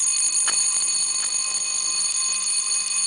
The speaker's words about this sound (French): Ça devait être la sonnerie de l'école.